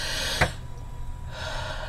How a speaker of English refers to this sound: That is a deep breath. I couldn't do that before. I couldn't walk up my stairs without coughing up blood.